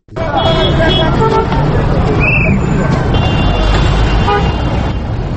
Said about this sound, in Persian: این شهر کابل است، کابلی که در گذشته زندگی پر رونقی داشت، اما حالا ازدحام وسایط مشکلات تازه‌ای به این شهر افزوده است. اما امروز فضای کابل را صدای موترها و فروشنده های دورگردی که نه تنها پیاده روها بلکه سرک ها را بازار ساختن پر کرده